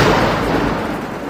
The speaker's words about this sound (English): Remember, you are in danger from a lightning strike if you can hear thunder.